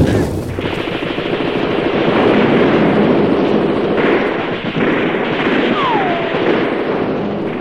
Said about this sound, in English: All units, open fire! Fire at will! All units, fire at will! Fire at will!